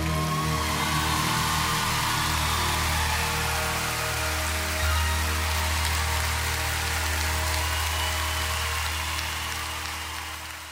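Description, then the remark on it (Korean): A crowd claps in a dense, steady wash of applause for about ten seconds, with a low sustained hum underneath, tapering off slightly at the end. No one speaks. “Ne, 박수 소리의 환호성에 이 맛에 가수를 하는 게 아닌가 싶네요.”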